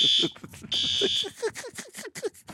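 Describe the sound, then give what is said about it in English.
A fire alarm goes off in a broadcast studio, blaring in two sustained, shrill, loud bursts while a person keeps talking over it and afterward. “The fire alarm has gone off here at our studios.”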